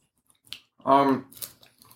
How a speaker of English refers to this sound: We haven't left yet. No. We're still eating our pizza. Mm-hmm. Mm, yeah, crunchy pizza. How we like it on Uranus.